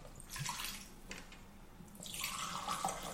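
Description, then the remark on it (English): A small dram being poured from a bottle into a glass, with uneven splashing glugs in a couple of bursts and a brief pause between, fairly loud and bright, no voices. “I made a nice clogging sound.”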